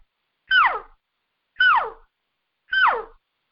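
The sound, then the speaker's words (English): A cow call blown on a reed: three short, high, mewing notes, each sliding downward in pitch, evenly spaced and equally loud, with no talking over them. “So here's a cow call on the same reed right here.”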